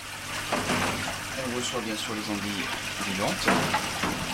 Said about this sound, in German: Hinter ihm strömt Wasser durch schwarze Plastikkörbe. Darin tummeln sich fast 300 Aale,